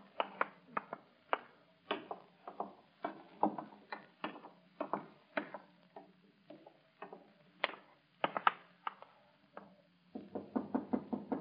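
knocking on a door

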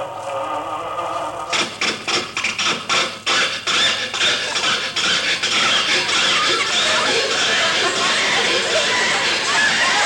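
car engine cranking

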